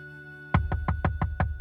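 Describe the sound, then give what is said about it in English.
Six quick, evenly spaced, loud knocks rap on a door late at night, after a moment of near silence with a faint steady hum in the background. “Late at night, poor people, struggling to pay their rent, facing eviction, would hear a knock.”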